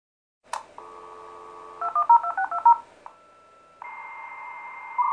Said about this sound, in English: Don't tell me you're still using a dial-up connection.